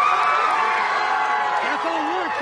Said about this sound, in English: Outside the courtroom, a crowd erupted in cheers.